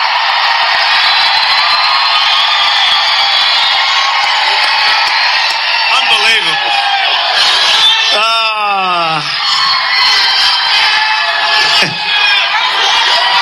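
A large crowd at a Trump rally cheers and roars continuously at full volume, with individual shouts and whoops rising out of the din, including a few sharp downward-swooping yells near the middle.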